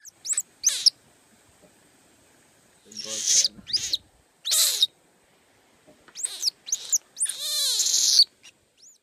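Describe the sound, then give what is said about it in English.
A series of sharp, high-pitched squeaky alarm calls from Miley at the Boiling River, warning that a bird is close by, comes in irregular bursts, some quick and clipped, one longer and wavering, loud with no talking. “He says this sound means, there's a bird close by and I'm scared.”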